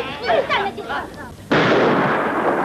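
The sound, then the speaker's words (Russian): Voices shout briefly, then a sudden, loud burst of gunfire erupts and continues as a dense, sustained barrage until the end. “Что касается Фигана, то ему удается уйти из-под выстрелов живым.”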